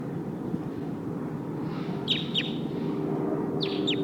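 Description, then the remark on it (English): A wild bird in the trees, said to sound like one of the Sikansis birds, gives two pairs of quick, high, downward-sweeping chirps while being recorded, clear above a steady low rumble of background noise. “Oh, sounds like one of the Sikansis birds is here in the trees.”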